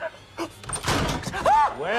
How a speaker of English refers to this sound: The door's flung open.